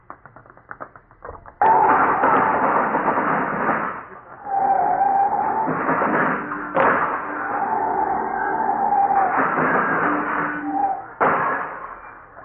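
Heavy street traffic: a loud, continuous roar of engines with sustained horn-like tones and several abrupt surges as vehicles rush past, after a few seconds of light clattering.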